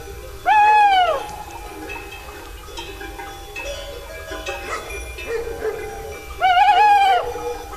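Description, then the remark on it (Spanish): A tawny owl hoots twice late at night in September in the Picos de Europa, where flocks sleep in the fold guarded by dogs, the calls about six seconds apart, each a loud, wavering, drawn-out note. A faint rustling night ambience fills the gap between the calls. “Ulula un cárabo, que marca así el paso de las horas.”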